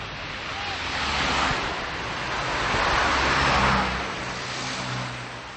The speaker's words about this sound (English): The sound of cars, trucks, and still more cars day and night. That's what many Prague residents have long had to deal with living near parts of the city's Magistrala highway.